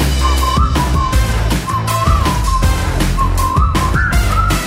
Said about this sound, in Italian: Che non ho, giuro non ho, neanche un'idea, ma fischiettando me ne andrò.